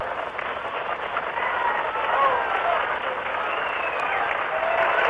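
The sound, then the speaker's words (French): The roar of a Saturn V rocket lifting off, its engines burning 1,800 kg of liquid oxygen and 1,700 kg of kerosene per second, the ground shaking: a loud, steady, crackling rumble that fills the whole clip without a break, with faint whistling tones drifting through it. “Maintenant, écoutez le bruit, il arrive ici et la terre tremble.”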